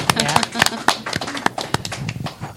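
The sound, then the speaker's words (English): A crowd at a Star Wars fan show applauds the fans with dense, irregular claps throughout, moderately loud, while voices murmur and call out underneath. “So we give a little applause to you all.”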